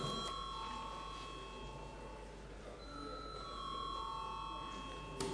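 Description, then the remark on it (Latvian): A steady electric bell rings continuously for several seconds in the Saeima, Latvia's parliament, called as deputies request a vote on a bill; a bright sustained tone with a faint murmur of the chamber underneath. “Deputāti pieprasa balsojumu. Lūdzu zvanu.”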